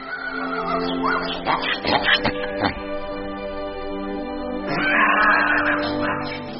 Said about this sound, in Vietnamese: Ông vừa đến nơi thì nghe trong một lò chiếc heo truyền đến tiếng heo kêu rống rất bi ai. Ồ, có thể là lò mổ heo này.